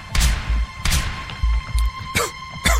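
Three muffled explosions of gas grenades, heavy low thuds with brief crackling bursts, going off in an irregular sequence with no voices.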